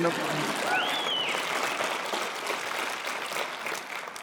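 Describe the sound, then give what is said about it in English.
An audience claps steadily for the news that about 250 people stood when invited after the gospel was shared: a dense crackle of many hands that holds fairly even for about four seconds and eases slightly at the end, with a brief whoop early on. “You can clap for that.”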